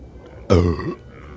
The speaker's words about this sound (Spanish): Boludo, vos te venías a tirar un eructo, boludo, en este momento. Boludo, no puedo aguantar, me pongo nervioso y eructo.